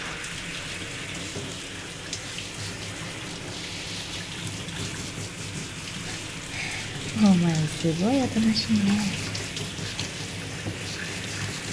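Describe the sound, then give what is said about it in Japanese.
Steady hiss of lukewarm water spraying from a shower head onto a cat's body as it is bathed, with a person speaking softly partway through. “猫はシャワーが嫌いなんて、テレビか何かで聞いた気もしてきた。”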